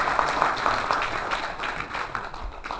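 An audience applauds at a lecture to thank the lecturer, a dense, steady wash of many hands clapping at once, holding at an even level for a few seconds with no voices on top.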